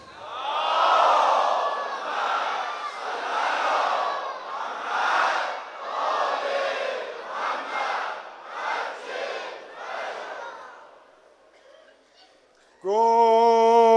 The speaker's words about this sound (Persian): از این مسجد محمد رسول الله یه صلواتی هدیه به حرم مطهر ابوالفضل کنید. این صدای صلوات باید برسه به کربلای امام حسین.